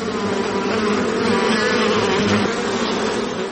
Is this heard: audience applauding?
no